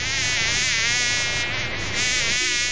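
A fly buzzes loudly, a steady droning hum with a slightly wavering pitch that continues without a break for the whole few seconds, with no voices.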